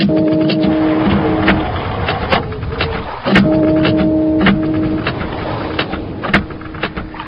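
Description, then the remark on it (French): A struck metal wrench with a lifetime guarantee, pitched down on a computer so it rings like a big bell: two hits, each followed by a low, steady humming tone that sustains, with faint clicks and crackle underneath. “I just whapped it, and it had such a reverberant sound.”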